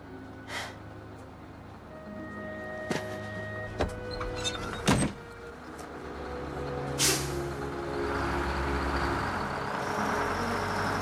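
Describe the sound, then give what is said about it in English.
A few sharp clicks and thuds, then a steady, swelling roar of Eddie's car racing down a highway, the engine and road noise building and holding loud to the end. “Eddie's car races down the highway.”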